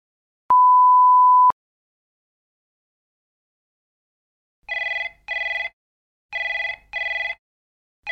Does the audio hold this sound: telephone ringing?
yes